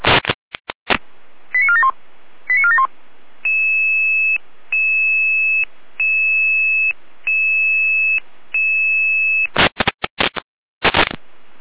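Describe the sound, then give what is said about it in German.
Fire brigade dispatch alarm tones sent out by the control centre: a burst of noisy clicks and short warbling chirps, then a steady series of six evenly spaced two-tone beeps, ending in loud bursts of static. No voices. “Leitstelle in Alarmruf.”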